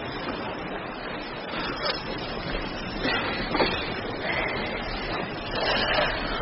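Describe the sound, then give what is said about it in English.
Sea waves wash in steadily as the tide comes in, a broad hissing surge that swells and recedes every second or two, with wind buffeting the microphone and no voices. “But the tide's coming in fast!”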